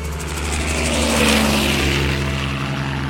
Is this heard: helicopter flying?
yes